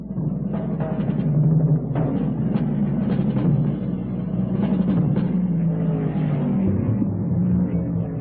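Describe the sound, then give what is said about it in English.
A dense, steady roar of several powerful race car engines, including a Ferrari and a Ford GT, revving and pulling away together from a running start at Daytona, loud, with shifting engine pitches and occasional sharp bursts over the droning mass. “the fastest qualifier on the pole. Car number 72 Ford GT, Bob Bondurant on the outside. And the race is on.”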